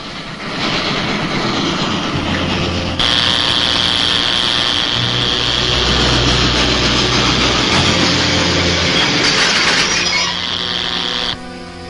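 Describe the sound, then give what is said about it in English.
An approaching train gives a heavy, continuous mechanical rumble with a low droning hum. It swells noticeably after a few seconds, holds loud and steady, then cuts off just before the end. “Here comes a train.”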